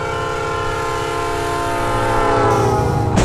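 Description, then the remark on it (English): A train horn blares in one long, steady, loud chord that swells slightly toward the end, then a sudden harsh burst of noise cuts in as the train crashes into a car on a level crossing. No one speaks. “I thought we'd be perfectly safe on the level crossing!”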